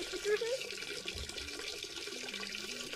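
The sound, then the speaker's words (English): A steady stream of liquid splashes into water, like someone peeing, with a continuous hissy trickle that holds even for a few seconds. A faint voice briefly murmurs at the start. “You gotta remember, pee and farts always win with me.”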